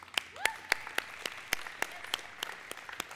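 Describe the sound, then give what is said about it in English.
An audience in church claps in praise in a steady, even rhythm, about a dozen sharp, loud claps in quick succession, with faint voices underneath. “There is nothing wrong with clapping in church and clapping for that praise.”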